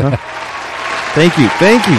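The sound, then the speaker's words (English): A studio crowd applauds with a steady wash of clapping noise, and bursts of whooping, rising-and-falling cheers break out over it. “And studio crowd here, it's kind of excited.”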